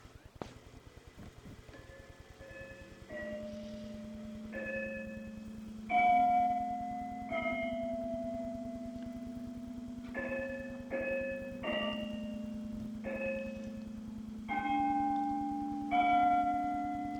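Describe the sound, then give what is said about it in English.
Cathedral carillon bells chime a slow, stately melody on a spring evening at sunset, each struck note ringing out and overlapping the next over a low sustained hum, with no voices present. “We can see the spire of St. Buster's Cathedral off in the distance and hear those beautiful chimes.”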